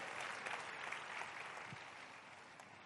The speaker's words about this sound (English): And he's here to give God praise for setting him free. Give the Lord a big clap of it.